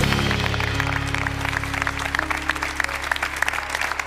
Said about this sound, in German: Ein warmer Applaus tut gut.